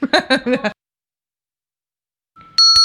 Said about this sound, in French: C'est la cloche de Westrack Radio que vous connaissez peut-être.